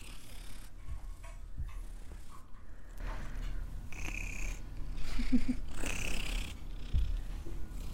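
A cat purrs steadily, a low rhythmic rumble with soft breathy pulses, continuing throughout with no voices over it.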